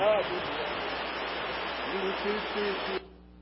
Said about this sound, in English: The noise is the river in the background.